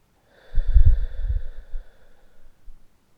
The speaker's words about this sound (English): Breathing in and out very gently, allowing yourself to completely relax. Breathing in and out.